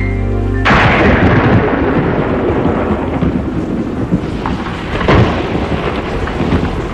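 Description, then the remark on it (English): A loud night thunderstorm with deep, rolling thunder rumbling continuously, a sharp crack near the middle, and a steady wash of rain-like noise underneath. No voices. “Later, on a dark and stormy night, I gathered everybody at the Wigglesworth house.”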